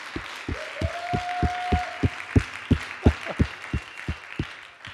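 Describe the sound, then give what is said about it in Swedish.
A crowd at a Christian gathering applauds for Jesus, clapping together in a steady, even beat over a broad wash of noise, while a brief sustained whistle-like tone rings out early on. “Ska vi ge Jesus en applåd igen?”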